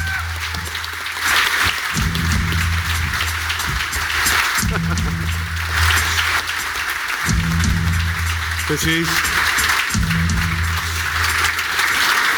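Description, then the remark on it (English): Sustained live audience applause welcoming a special guest, a dense, steady wash of clapping that holds at an even loudness for about twelve seconds, with low humming tones pulsing underneath. “Now, please give him a nice reception.”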